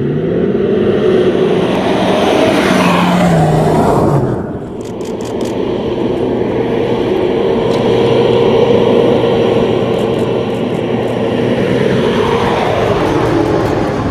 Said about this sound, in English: The Foxhound is the Army's latest patrol vehicle, but although it's built almost like a tank, the manufacturers took design advice from rally car builders and F1 teams to give the truck extraordinary speed and agility.